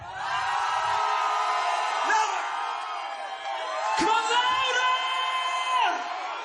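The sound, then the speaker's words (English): An audience at a singing event screams and cheers loudly and continuously at the performer's request, a dense wall of many high voices sustained for several seconds with brief swells and whoops. “So scream as loud as you can right now.”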